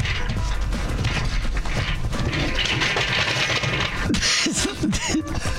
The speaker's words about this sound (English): Did you just fall out of your chair? Are you okay?